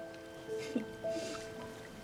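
A person splashes in the shallows: water sloshes and splashes softly, a steady wash of wet noise with a few small splashes, under a faint sustained tonal hum.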